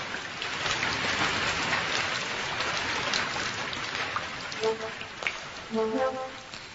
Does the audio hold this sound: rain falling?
yes